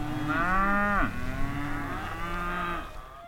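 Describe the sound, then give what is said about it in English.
Cattle grazing in the agricultural Little Snake River valley on the Wyoming-Colorado border moo in two long, drawn-out calls, the first dropping sharply in pitch at its end, the second steadier and fading out. Loud, with no voices. “Goats, sheep, and cattle graze next to schools and churches.”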